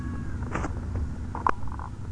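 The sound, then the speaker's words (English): A cat lets out one short meow, moderately loud, preceded by a brief soft rustle, with a low steady hum underneath and no talking. “Meow. And she knows it.”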